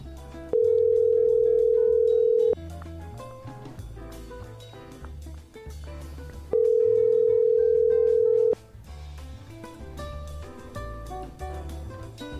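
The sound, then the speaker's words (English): An outgoing phone call's ringback tone rings twice, each a steady two-second purr separated by a few seconds of pause, loud over a busy background of music. “Let's see if he answers.”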